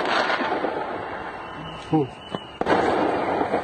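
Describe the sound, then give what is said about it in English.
Fireworks crackle and bang over a noisy outdoor crowd of Iranians celebrating a U.S. national team win, with a few sharp bursts standing out among a constant wash of cheering and pops. “I think there's people setting those are fireworks.”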